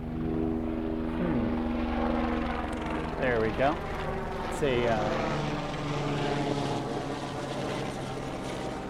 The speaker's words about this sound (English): Hey, a helicopter's flying directly at me. It's gonna fly right overhead. So just hold on for a second. It's gonna get a little louder. It's funny because its apparent speed slows down as it gets closer.